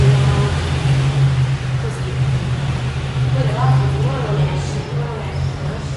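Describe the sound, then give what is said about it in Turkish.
Steady street traffic rumbles throughout as cars pass by on a side street, a continuous low engine drone with faint voices briefly audible in the background. “Ama arabalar da geçince tam cadde sandım.”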